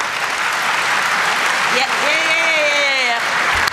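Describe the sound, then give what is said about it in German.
Steady, moderate, somewhat restrained applause from an audience, a continuous patter of many hands clapping without cheering; partway through, a single voice briefly rises over the clapping. “Er ist der Applaus ein bisschen verhalten.”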